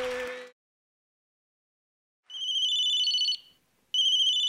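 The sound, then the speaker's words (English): A telephone rings with a bright electronic warble, sounding in two bursts after a short noise and a stretch of silence; the ring is clear, with no voices. “phone for you.”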